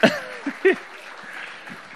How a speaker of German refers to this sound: Applaus für unseren Organisator.